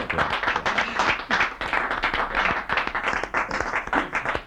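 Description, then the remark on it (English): A small group gives a little round of applause for a guest after an interview, a steady patter of overlapping claps that holds at a fairly even level for a few seconds with no one speaking over it. “A little round of applause, I think.”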